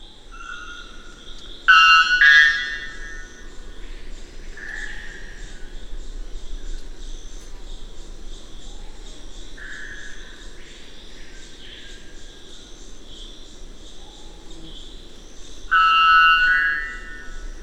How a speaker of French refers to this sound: Un chant inespéré tant l'oiseau est rare en Guyane. Il vient de résonner dans la grande forêt en contrebas, à plusieurs centaines de mètres de la route. C'est le chant impressionnant, en son de cloche, d'un araponga blanc, Procneas albus.